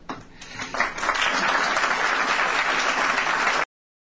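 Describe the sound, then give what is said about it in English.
A large audience of supporters of a constitutional amendment defining marriage as a union of a man and a woman bursts into sustained applause at a speech, many hands clapping in a dense, steady roar that swells quickly and holds loud before cutting off abruptly. “When the you know, when the faithful sit there and applaud and applaud and applaud something that King George says”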